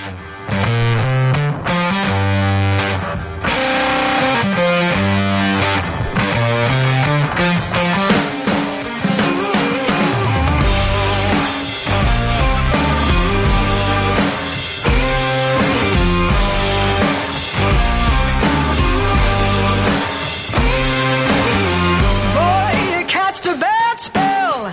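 A loud blues rock song plays steadily for the whole stretch, with gritty distorted guitar, a driving beat and a dense, full band sound that never drops out.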